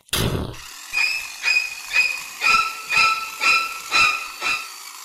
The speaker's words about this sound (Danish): Så stak hækklipperen ind igennem busken.